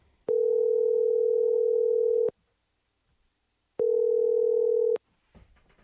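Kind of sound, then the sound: signal or alarm, telephone dial tone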